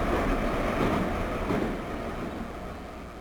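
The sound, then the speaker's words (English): A loud, steady rumble of a Moscow Metro train running through a tunnel in Moscow, a dense roar with rattling undertones that eases slightly toward the end. No voices are heard. “The Moscow Metro. Overcrowded, run down, underfinanced.”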